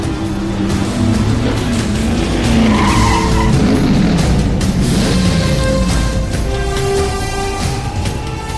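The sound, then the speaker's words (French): Race cars cross the finish line, engines roaring and whining and tires screeching in a loud, unbroken rush of motor noise that holds steady from start to finish. No one speaks. “Ils franchissent la ligne d'arrivée!”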